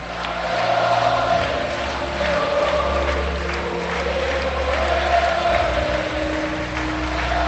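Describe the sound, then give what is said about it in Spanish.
A large arena crowd at the Caja Mágica roars steadily, massed voices rising and falling together in a loud, sustained chant of "campeones" over a constant wash of cheering for the full length, as the Spanish tennis team, including Rafa Nadal and Feliciano López, lifts its trophies. “Con la caja mágica al unísono gritando eso, a lo que nos han mal acostumbrado de campeones, campeones”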